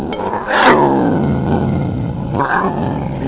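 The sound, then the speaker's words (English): A rescued cat growls in a low, continuous rumble for several seconds, swelling into two louder, harsher snarls, one early and one near the end. No one speaks. “Yeah, my family rescued a cat that has somehow or another thinks it's adopted itself into the home, and I actually had someone want to take it today”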